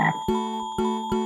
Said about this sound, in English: Stop! Listen. What's that? It's a frog!